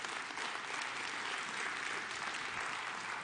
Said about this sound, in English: Yeah, we can give him a applaud, God.